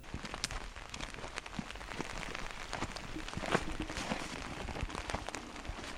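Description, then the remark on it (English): Steady rain patters all around outdoors in a wooded hollow at a remote site west of Eureka Springs on a Thursday early afternoon, a dense hiss of countless drops with sharper taps scattered through it, constant and moderately loud with no voices. “It's raining out.”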